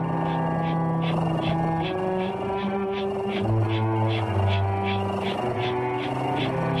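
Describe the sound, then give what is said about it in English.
A cat's steady, low, rumbling purr pulses in a quick, even rhythm about twice a second. It runs continuously and fairly loud beneath the layered droning tones of music made for calming cats. “So we got to bring the purring in.”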